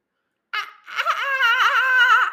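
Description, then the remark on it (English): A voice imitates a dolphin with high, squealing chatter: a short chirp, then a long wavering, warbling whistle-like cry that rises and falls, loud and alone with no talking. “Can you make a dolphin in the middle of the night?”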